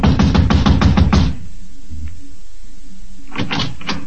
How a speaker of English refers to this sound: Across the hall, the door to apartment number 4 said manager. I walked over and started knocking again.